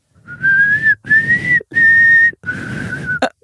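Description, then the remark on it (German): Someone who cannot whistle well whistles four short, breathy notes, each held briefly with gaps between, the pitch barely changing, like a shaky attempt at a tune. There is no talking. “Echt jetzt? Du kannst nicht pfeifen?”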